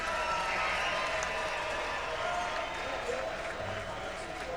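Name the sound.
crowd roaring and applauding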